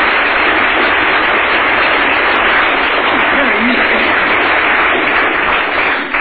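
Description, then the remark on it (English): A large audience applauds both teams steadily and loudly, a dense, continuous wash of clapping that holds at full strength for about six seconds before easing slightly at the very end. “Round of applause. Both teams.”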